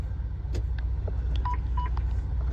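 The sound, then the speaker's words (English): Two short, clear electronic beeps sound a moment apart over the steady low rumble of an idling truck engine, the truck's idle shutdown warning. “Truck driving, guys. Idle shut down.”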